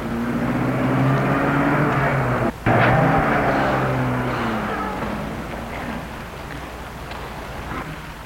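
A car engine hums with a low, steady drone, then the broad rumble slowly fades as the vehicle pulls away and recedes. No one speaks.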